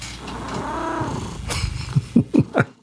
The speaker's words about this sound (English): And sorry, my cat has arrived, so we'll hear my cat in the episode.